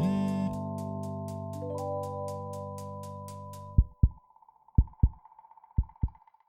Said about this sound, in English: I'll buzz you when your table's ready.